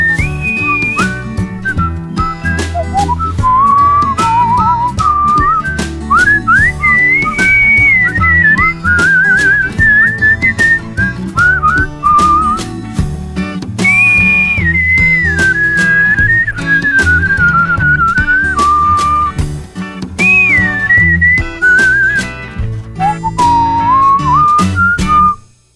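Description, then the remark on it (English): A bright whistled melody glides and warbles over a full band backing with steady drums and bass, the whistle loud and upfront throughout the song. “Oh, there's nothing like a good whistling song.”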